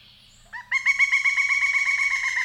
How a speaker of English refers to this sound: We're talking a monster of a woodpecker. So. And also the call sound, vastly different. Vastly different. Here's the pileated.